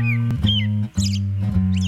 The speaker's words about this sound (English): Whatever the cause, birds singing at night are one more thing, like rumbling trains and passing cars, that city dwellers learn to sleep through.